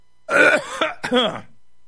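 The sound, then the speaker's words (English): Someone clears their throat with a loud, raspy, voiced rumble, then a second shorter grating burst, with no other sound around it. “My throat's closing up. I got to clear my throat.”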